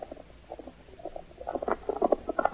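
Hoofbeats of a single horse moving fast, a quick, uneven run of soft, muffled thuds that grows steadily louder over a couple of seconds, with no voices.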